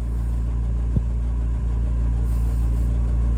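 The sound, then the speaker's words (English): A car engine runs with a steady, heavy low rumble, held at a constant level throughout, with a faint knock near the start and no voices, while the driver sits burning rubber. “You know, the idiot is just there burning rubber.”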